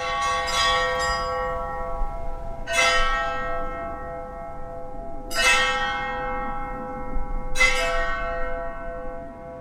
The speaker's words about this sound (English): So we cut the bottom off the welding tanks, hung them up, and then we beat them with ball-peen hammers.